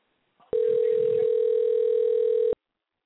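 A telephone dial tone: one steady, unbroken hum at a single mid-low pitch that starts abruptly, holds evenly for about two seconds, then cuts off. A faint click comes just before it.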